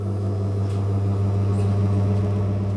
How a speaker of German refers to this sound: Ob der Neubau den Test bestehen wird? Leo Jarosewitsch startet den Ventilator.